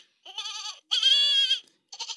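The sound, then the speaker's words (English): A shrill, electronic-sounding goat scream from a screaming goat sound effect toy from Archie McPhee, three harsh bleats in quick succession, loud, the middle one longest, with no talking. “It's a screaming goat sound effect.”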